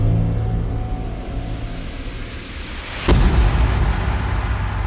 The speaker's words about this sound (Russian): Семипалатинский взрыв. Ядерный полигон устроили на берегу Иртыша в Казахской ССР, в 120 километрах от города Семипалатинск.